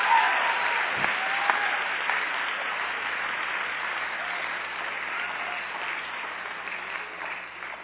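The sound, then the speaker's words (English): Sustained audience applause for cheer dancers, a dense steady patter of many hands clapping that carries evenly for several seconds before beginning to thin slightly toward the end. “Come on, let's hear it again for the cheer dancers.”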